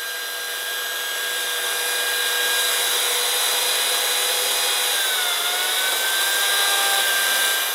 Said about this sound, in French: C'est des petites tronçonneuses, je préfère électrique parce qu'elle est plus silencieuse déjà. Et puis, ben voilà, il y a le confort de ne pas avoir un moteur qui nous hurle dans les oreilles. Et puis, la machine est plus agréable.